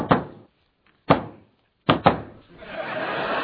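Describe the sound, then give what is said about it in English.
A secret knock on a door taps out a deliberate pattern: one knock, a pause, another knock, then a quick double knock, fairly loud, followed by a steady rushing hiss. “That's not the secret knock. This is the secret knock.”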